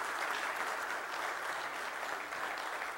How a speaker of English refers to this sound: I'd almost venture to say maybe we ought to give our hardworking elders a round of applause this morning.